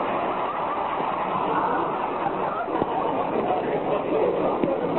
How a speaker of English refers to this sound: Another car wants to pass us, Rochester. Okay, boss, let's look nonchalant. Never mind, let him go, the fool.